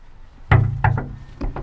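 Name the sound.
knocking on a door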